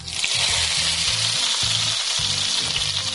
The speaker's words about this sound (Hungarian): És akkor ezeket utána ilyen sütőpapírra előkészített kis vágódeszkára teszem, amelyre tudom és dolgozom, és utána pedig serpenyőben olívóolajon ki fogom sütni.